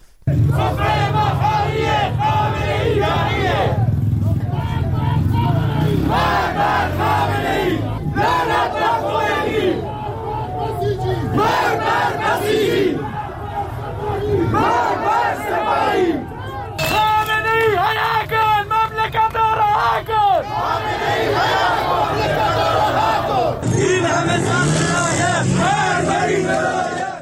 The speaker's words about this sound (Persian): معترضان پس از سخنرانی مولوی عبدالحمید بار دیگر در خیابانها شعار سر دادند.